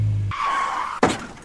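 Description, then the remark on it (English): A low rumble gives way to a long, high tire screech, then a sudden loud crunch of impact with shattering glass as a car slams into a police car. No one speaks. “Criminy, did you really just hit the cop car?”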